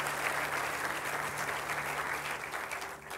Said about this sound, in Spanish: Vamos a darle un aplauso al Rey de Reyes y Señor de Señores, Jesucristo.